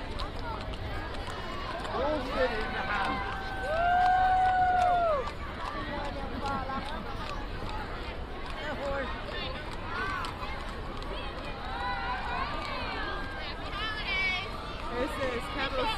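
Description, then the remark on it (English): Horses running, a steady rumble of hoofbeats under a murmuring crowd and indistinct voices, with a brief louder tonal swell partway through. “Hear the horses, baby.”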